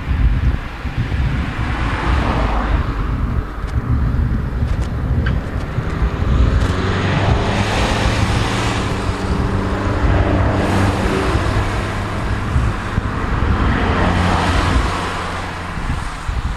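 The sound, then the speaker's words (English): Steady road traffic rumbles past on the Ditchling Beacon hill climb in East Sussex, England, engines droning and swelling as vehicles go by, with gusty wind buffeting the microphone throughout and no one speaking. “Oh, we're experiencing a lot of traffic here.”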